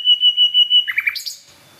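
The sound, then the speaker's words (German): A nightingale sings alone at a nightingale hotspot: a rapid series of repeated clear whistled notes, then lower liquid phrases and a brief high flourish before it stops abruptly. “Also wir stehen jetzt bei der Hotspot Nachtigall.”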